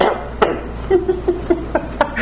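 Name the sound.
cough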